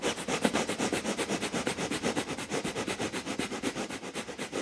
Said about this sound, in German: Wir machen ein bisschen Feuer, so früh am Morgen. Bastrika, Blasebalgatmung durch die Nase.